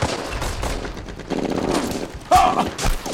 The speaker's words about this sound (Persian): پوشش آتش، پوشش آتش، به شلیک ادامه بدید، آتش بار زدین ها؟